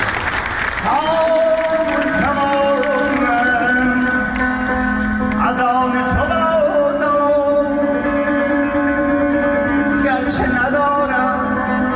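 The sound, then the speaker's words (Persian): A concert crowd applauds and cheers a singer steadily throughout a live performance, a dense wash of clapping beneath sustained musical tones and a voice, loud, with no clear break in the noise. “آره، یه چند باری اتفاق میفته، مردم تشویقش میکنن.”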